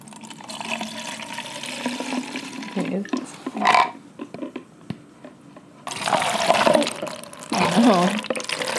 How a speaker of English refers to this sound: So I have a beverage to my right. And get the ASMR for the... Oh, okay. I'll hold them. Okay. And I'm going to pour now. Oh, maybe we should... Not that good at pouring, sorry.